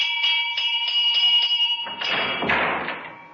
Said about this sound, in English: when the front doorbell rang.